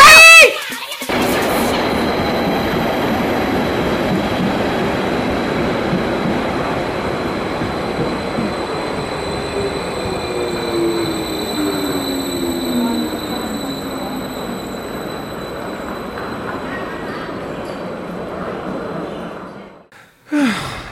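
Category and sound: vehicle, train at station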